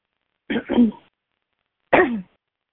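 Dry coughing: two quick harsh bursts back to back, then a single cough after a short pause, with no talking around them.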